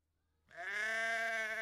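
A single loud, drawn-out sheep bleat starts after a brief silence and holds steady for about a second, clear with no talking.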